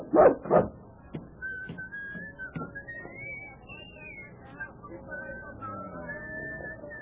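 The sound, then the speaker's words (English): A dog named Rags, left in a circus wagon, gives two quick, sharp yips, then settles into a long, thin, high-pitched whimper that wavers on and off for several seconds. “Now you stay quietly in this wagon and behave yourself. Now, no use wagging your tail.”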